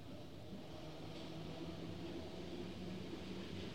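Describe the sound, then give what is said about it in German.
Steady low rumble of a subway train in motion, with a continuous droning hum and faint rattling throughout, moderately loud and unbroken, no voices. “Die U-Bahn ist für alle da.”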